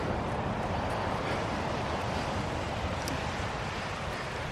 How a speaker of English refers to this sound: By the way, that's waves. Yeah, these waves are insane.